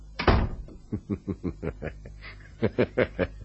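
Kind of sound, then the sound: household object, door being closed quietly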